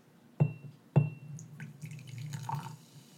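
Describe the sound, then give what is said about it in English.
Butterscotch liquid is poured into glasses, a little for each person during a tasting: two bright glassy clinks with a short ringing tone, then a soft, bubbling trickle of liquid lasting about a second. No one speaks. “So just give everyone a little dabble of that.”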